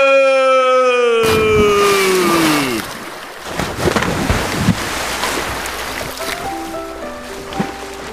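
A descending whistle-like tone ends in a loud, sudden splash as a body plunges into pool water in a cannonball jump, followed by several seconds of churning, sloshing water settling down.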